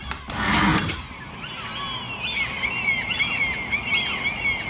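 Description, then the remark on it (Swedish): Common gulls call outside a bedroom window at 6:15 in the morning during their breeding season: a loud, harsh burst of cries opens, then several high, wavering, laughing calls overlap and carry on steadily over a low background rumble. “Det är hemskt, det här är ju då fiskmåsarnas häckningsperiod nu.”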